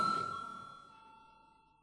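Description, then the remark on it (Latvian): A single bell chime, the voting signal in the Latvian parliament (Saeima) rung before a vote on an amendment, rings out with a bright, steady tone and slowly fades over about two seconds, heard alone without any talking. “Lūdzu vēlreiz zvanu.”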